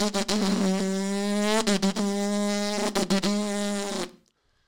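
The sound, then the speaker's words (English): The loud, buzzing engine of a modified 1998 Honda Civic drones at a steady low pitch for about four seconds, broken by several brief crackling pops, then cuts off abruptly into silence. “Why is that car making so much noise?”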